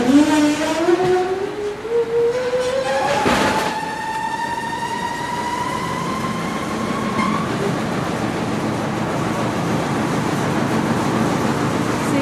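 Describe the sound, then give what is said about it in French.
A metro train accelerates with a loud, steady rumble, its motor whine climbing in pitch over several seconds, with a sharp clunk partway through, then a continuous roar of wheels on track. “Du métro, tu comprends, on vient là et on entend le bruit du métro.”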